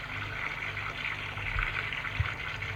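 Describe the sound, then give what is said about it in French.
An ice-cold shower runs steadily, a continuous hiss of spraying water with a low rumble underneath, fairly loud, with no voices over it. “Plusieurs fois, il est obligé de prendre une douche glacée pour arrêter sa fougue.”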